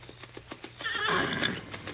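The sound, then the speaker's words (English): A horse, the stallion Silver, gives a loud, shrill whinny that rises and wavers, preceded by a few sharp hoof clops at a steady rhythm, with no voices. “Man alive, what a horse. What a horse is right.”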